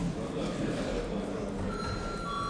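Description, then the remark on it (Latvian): A voting bell in a parliament chamber, rung to call deputies to a vote on an amendment, begins partway through: a steady electronic ringing tone held at a fixed pitch over a constant murmur of background noise. “Prasa balsojumu. Lūdzu zvanu.”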